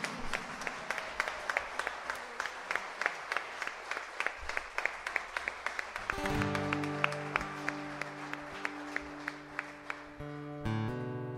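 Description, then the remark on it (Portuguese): An audience applauds in praise of God with loud, steady, rhythmic clapping throughout, and sustained keyboard chords swell in beneath the clapping about halfway through. “Um forte aplauso a Ele, amém?”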